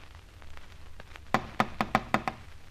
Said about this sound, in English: We've rapped on the door dozens of times. He's not at home.